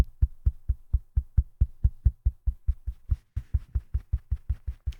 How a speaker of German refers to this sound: Ich werde hier einfach mal klopfen, dann wird Timeless das schon irgendwie mitbekommen.